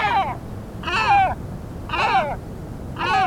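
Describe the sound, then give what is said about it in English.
Four deep, hoarse great black-backed gull calls, each a short harmonic squawk dropping in pitch, repeating at an even pace about once a second over faint background noise. “And though their populations recovered with help from environmental protections, great black-backed gulls are in decline once again.”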